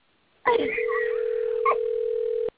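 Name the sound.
telephone ringing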